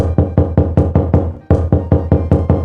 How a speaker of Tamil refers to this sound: கதவை தட்டிவிட்டு உள்ளே சென்று ஒரு கஸ்டமரை கொண்டு வந்து விட்டுட்டு போனேன், அவங்கள கூட்டிட்டு போலாமா?